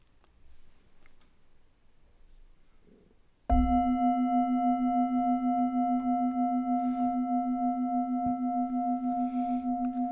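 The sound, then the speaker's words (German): A meditation gong is struck once and rings on with a steady, sustained tone, its bright overtones humming evenly and slowly pulsing as the note lingers after a quiet lead-in. “Wenn du magst, kannst du auch noch eine kurze Übung nach dem Gong hören.”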